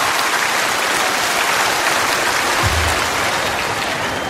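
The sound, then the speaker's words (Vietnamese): A large audience at the opening of a Buddhist dharma talk claps steadily and loudly throughout, a dense continuous wash of applause with no voices standing out. “Cho nên để mở đầu cho buổi pháp thoại, tất cả chúng ta sẽ có một tràng pháo tay, đó là niềm vui nghĩ đến những đấng sinh thầm của chúng ta.”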